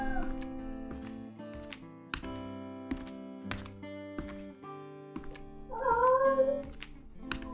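A cat named Tiger meows once, a drawn-out wavering cry near the end, over steady background music with soft tapping hits throughout.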